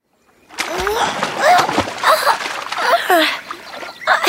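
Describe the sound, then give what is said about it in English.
An animal, Bubbles, swims through water, splashing steadily and fairly loud, with irregular sloshes and sprays rising and falling for several seconds. “Can Bubbles swim? Yes, he can.”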